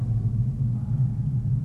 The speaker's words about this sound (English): Jake LaMotta is about to get knocked out by Sugar Ray Robinson, and there's just a shot of Sugar Ray standing there, and it gets very quiet. There's sort of a rumbling, hissing sound.